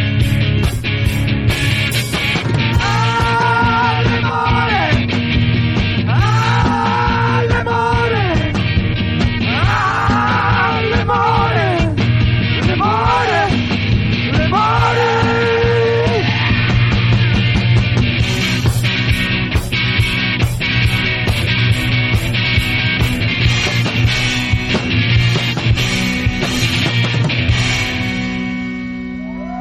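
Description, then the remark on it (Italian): A man yells and screams over a loud, distorted rock track, his strained voice rising above heavy guitars and pounding drums for most of the half-minute before the music fades slightly. “Senti l'UM che grida, abbiamo anche alzato il volume.”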